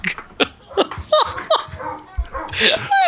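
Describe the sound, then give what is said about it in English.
A dog barks repeatedly in short, sharp bursts in a hallway, with some yipping and whining mixed in and faint voices in the background. “Well, and they're still barking in the hallway.”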